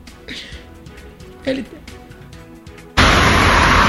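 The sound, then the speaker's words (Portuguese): A short radio segment jingle introducing a correspondent's report from the streets of Salvador: a few punchy hits and a tonal swell over a low rumble, then a sudden loud wash of hissing noise cuts in and holds to the end. “Vamos com ele, bota a vinheta.”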